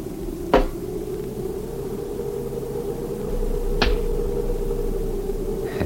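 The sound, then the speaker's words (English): A few sharp, hard knocks of a rock thrown against a wooden cabin wall ring out seconds apart, each with a brief echoing tail from the canyon that sounds like a rifle shot, over a steady low background hum. No one speaks. “Just an echo from the canyon if you throw a rock against the cabin.”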